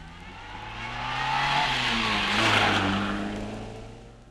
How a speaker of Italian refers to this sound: Automobile.